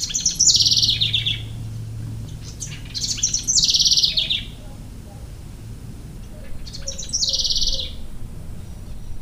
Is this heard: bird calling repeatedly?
yes